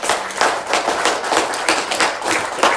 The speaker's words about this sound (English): So I believe our Christian soldiers and our military soldiers deserve another round of applause. Amen.